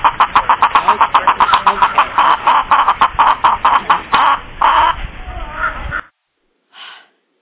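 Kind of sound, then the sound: rubber chicken toy squawking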